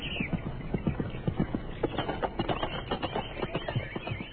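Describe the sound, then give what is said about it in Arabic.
Horse hooves clip-clop in a steady, quick rhythm, each hoofbeat crisp and distinct as the animal trots along, with faint bird chirps in the background. “وهكذا يا أحباء ذهب الحصان ليبحث عن قرود، لأنه فعلا كان يعرف المكان الذي يختبئ فيه.”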